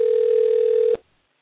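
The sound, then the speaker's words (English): A steady, mid-pitched telephone dial tone of an outgoing phone call hums loudly and evenly for about a second, then cuts off abruptly with a faint click, leaving near silence. “Hopefully it'll go through.”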